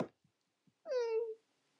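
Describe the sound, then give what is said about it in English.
A single drawn-out cat meow from a novelty song being played, clear and sliding downward in pitch for about half a second after a few faint soft taps, with silence afterward. “I'm just gonna play my favorite song since your guys' is so boring. Listen to this.”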